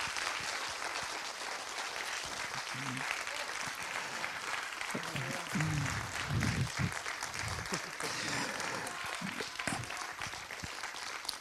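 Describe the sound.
Sustained audience applause for the creator of a film, a dense steady patter of many hands clapping at an even loudness for the whole stretch, with faint voices murmuring underneath partway through.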